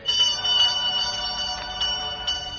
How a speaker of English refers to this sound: He rings the bell.